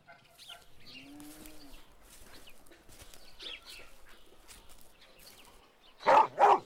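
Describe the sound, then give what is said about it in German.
A dog barks twice, loud, at the very end, following several seconds of soft farmyard ambience with scattered chicken clucks. “Oh nein, ein Hund! Ich hoffe, der ist ganz weit weg.”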